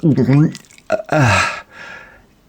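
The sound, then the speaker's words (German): A nervous gulp voiced in the throat by a woman standing frozen on a silent phone line: a couple of short, throaty swallowing sounds with wavering pitch, followed by a softer breathy exhale that fades out. “schluckt.”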